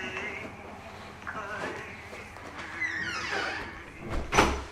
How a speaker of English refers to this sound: Can I close the door? Yeah. Good idea.